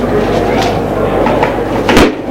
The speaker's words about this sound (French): Il a ouvert les tiroirs. Il y a tellement de choses.